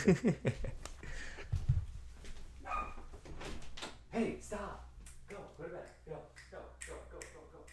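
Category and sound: animal, dogs barking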